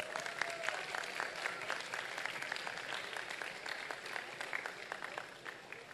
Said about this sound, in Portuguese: E podem ter certeza, eu vou cobrar, mas vou cobrar muito de todos vocês que estão aqui aplaudindo, porque mais que aplaudir, nós temos que trabalhar e trabalhar muito por esse país.